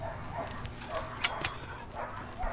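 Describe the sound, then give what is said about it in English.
Three dogs, including a Siberian Husky named Blue, bark and yip in short, scattered bursts by a fence, with a couple of sharper yelps standing out over a steady outdoor background hum. “Yeah, so I got three of the dogs out here, and then two are put away right now.”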